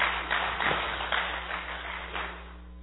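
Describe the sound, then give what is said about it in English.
Scattered, hesitant applause from just a couple of people: a handful of soft, uneven claps spread across a few seconds over a steady low hum, with no voices. “А то, что так неуверенно, пару человек хлопает.”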